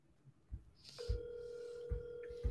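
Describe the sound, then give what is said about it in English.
A telephone call to someone in Idaho rings on the line with no answer: a steady, mid-pitched tone holds for about a second and a half, while dull low thumps sound now and then underneath. “There's no money to be made if they don't pick up the dang phone.”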